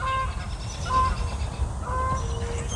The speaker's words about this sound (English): Well, hello, geese.